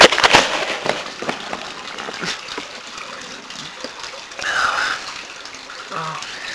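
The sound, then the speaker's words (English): Wet spitting of water from rinsing the mouth into a plastic-lined trash can, with a few short splashy bursts and rustling plastic, plus faint breathy mouth sounds in between. “Spit in the trash can. It's lined with plastic.”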